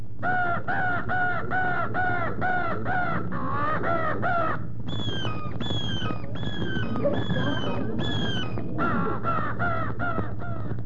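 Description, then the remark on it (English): A person vocally imitates a Tennessee crow and hawk fight: a rapid run of harsh, repeated caws gives way to higher, drawn-out screeching cries, loud, with no speech. “And so I'm going to try to give you an idea of a Tennessee crow and hawk fight.”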